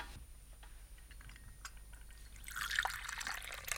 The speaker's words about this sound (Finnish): Otakos lisää kahvia? No, kaada jos on.